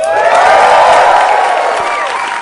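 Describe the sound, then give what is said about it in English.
A live audience at Largo erupts in loud, sustained applause mixed with cheering and a few whoops, a dense wash of clapping and crowd noise that holds steady with no one speaking. “If you were here live, you would see that I just pimped the audience to applaud that.”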